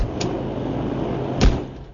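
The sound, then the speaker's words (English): A door thuds shut with a single solid knock near the end, preceded by a faint click, against a steady background hiss; no voices. “Here, step outside this door.”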